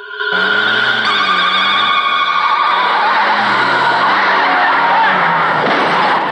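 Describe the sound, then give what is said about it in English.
Car tires screech loudly and continuously for several seconds as a car with its headlights on swerves from side to side down a dark street, with engine roar and a dense, noisy rush underneath. “car swerves from side to side down a dark street, its headlights on.”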